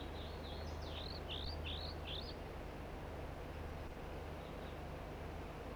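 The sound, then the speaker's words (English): Two crossbills from a flock give their typical flight song: a quick run of six or seven sharp, upslurred chirps over a couple of seconds, fairly faint, then fading out over a steady low rumbling hum. “And the other two birds are singing as well here, giving the typical flight song.”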